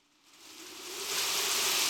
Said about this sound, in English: It was the perfect night. The rain fell heavily.